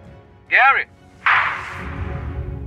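A single sharp gunshot, fired by a man who drew a gun on another man in a real shooting filmed live by TV crews, cracks out and fades into a lingering rumble, preceded a moment earlier by a brief warbling, whistle-like tone over a low background murmur.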